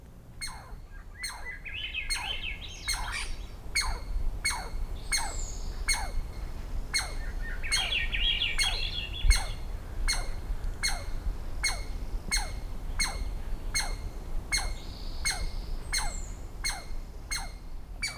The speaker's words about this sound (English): In the following recording, Swainson's thrush and an alarmed squirrel share the soundstage.